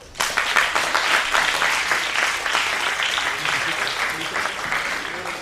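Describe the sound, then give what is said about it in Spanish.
An audience breaks into applause as a band is introduced, a dense crackle of many clapping hands that starts abruptly and stays steady and loud for several seconds, easing only slightly toward the end. “Un aplauso.”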